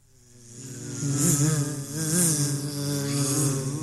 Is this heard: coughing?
no